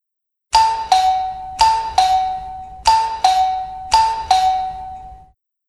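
A doorbell chimes a two-tone ding-dong three times in a row, each pair of clear, ringing notes fading out before the next, loud with no other sounds.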